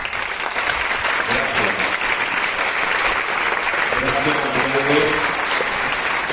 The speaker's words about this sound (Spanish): Y bueno, pues aquí estamos y de verdad estamos con un equipo de gobierno, con mayoría absoluta, con el Partido Popular y todo esto se lo debemos sin duda a nuestro alcalde Juanjo, con el que pido de verdad un fuerte aplauso.